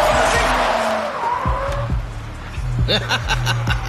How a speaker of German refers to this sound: Der kommt jedenfalls ziemlich schnell angefahren. Aha. Wenn er uns abholen möchte, dann sollte er das Auto langsam mal bremsen.